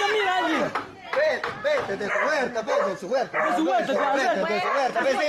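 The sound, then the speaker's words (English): An irate dog barks furiously in rapid, overlapping, loud bursts, with yelping, strained tones running almost continuously, while people try to get the dogs into the backyard; other voices or animal noises are mixed into the commotion. “And the dog, because the dog is obviously irate.”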